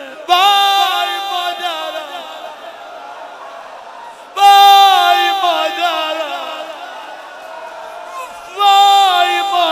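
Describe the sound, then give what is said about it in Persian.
A large audience wails and cries loudly in mourning on a night of martyrdom commemoration, voices rising together in three long, sustained waves of anguished sobbing, each surging in abruptly and then slowly fading. “کسی آروم گریه نکنه.”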